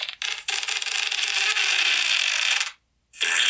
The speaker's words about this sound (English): This is called fart sounds over 1,000 farts.